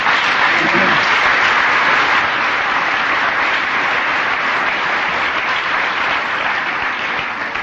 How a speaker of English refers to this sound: You're applauding AA and Al-Anon.